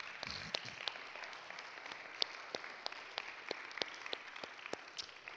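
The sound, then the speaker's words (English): A church audience applauds the mothers, standing in the balcony, at the close of a Mother's Day service: steady, moderately loud clapping, sharp individual claps standing out irregularly over a dense wash of hands, with no talking. “Balcony, we applaud you.”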